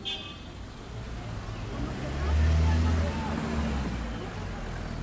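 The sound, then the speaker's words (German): Busy, congested city street traffic in Tirana with a steady wash of engine noise, a deep vehicle rumble swelling past midway, and indistinct voices of crowds mixed into the hubbub. “Auch das ist Tirana. Staus und chaotischer Verkehr.”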